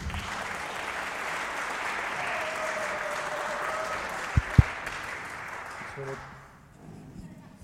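Steady audience applause, a dense wash of many hands clapping at an even level for about six seconds, with two sharp knocks partway through, then fading out.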